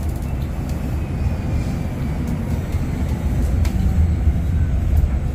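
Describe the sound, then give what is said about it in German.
A quiet electric city bus drives along, a steady low rumble and road hum with a faint, thin motor whine above it, rising slightly in loudness toward the end. No one speaks. “Und wer mal hören möchte, wie leise der Bus ist, bekommt jetzt noch eine kleine Hörprobe.”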